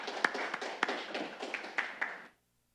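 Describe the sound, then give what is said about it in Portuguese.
An audience applauds the two honorees at a tribute ceremony with a dense, steady patter of many hands and a few sharper claps standing out. It stays fairly even for about two seconds, then stops abruptly into silence. “Uma salva de palmas aos dois homenageados.”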